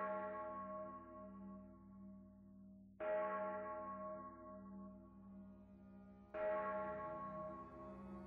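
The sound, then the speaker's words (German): A church bell tolls through the evening air at dusk, with three strong strikes roughly three seconds apart, each leaving a long, shimmering hum that carries into the next. No voices are present. “Rauchschwaden stiegen von dort empor und die Glocke Schaljas hämmerte ununterbrochen durch die Abendluft.”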